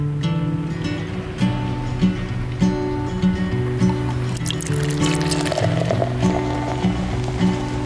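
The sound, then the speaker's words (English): Coffee pours steadily into a cup, a continuous liquid fill with a rising gurgle and a few splashy drips, over a soft tonal backing with no talking. “So with that, pour yourself a cup and let's get to it.”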